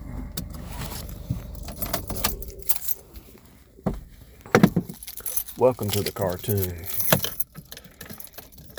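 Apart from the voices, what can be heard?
keys jangling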